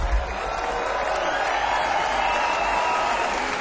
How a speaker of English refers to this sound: A big cheer